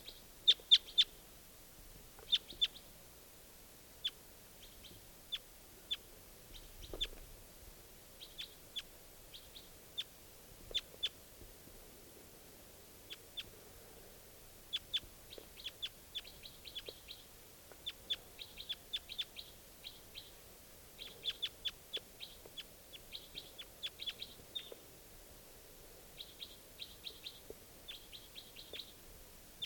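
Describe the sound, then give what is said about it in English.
A wild bird calls repeatedly with short, high-pitched chirps, coming in irregular bursts and quick clusters over a faint low background hum, with no talking. “I think there might just be this one bird here.”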